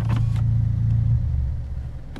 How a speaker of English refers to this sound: He turned it off. He's got a loud ass car that looks like a little car.